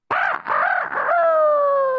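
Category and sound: bird, rooster crowing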